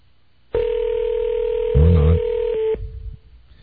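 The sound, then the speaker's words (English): A single steady telephone ringback tone drones for about two seconds on an outgoing call from radio station WJFK, whose name will show up to the person called, with a brief murmur of voices overlapping in the middle before the tone cuts off. “Well, it'll show up as WJFK, though, so maybe he'll take it.”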